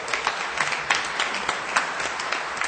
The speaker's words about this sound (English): From 7 women and 3 men, look what we have today. Oh, can we give each other a round of applause? Woo!